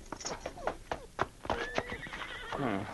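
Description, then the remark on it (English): A horse grazing by a trail whinnies in a shrill, wavering neigh that rises and trails off, while a few sharp hoof clops sound around it. “Sergeant Preston, followed by King, rode at a fast pace until, as they rounded a bend in the trail, the Mountie saw a figure lying on the ground and a horse grazing nearby.”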